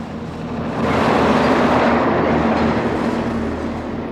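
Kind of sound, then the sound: vehicle, traffic noise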